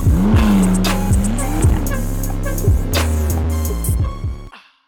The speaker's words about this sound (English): After hitting a pothole and damaging his car at the song's end,